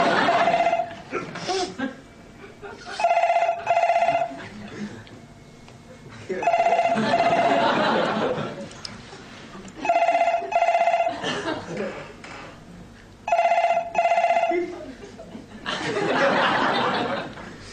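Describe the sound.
A telephone bell at a workplace rings loudly in repeated bursts, about every three and a half seconds, with voices and laughter-like sounds filling the gaps between rings.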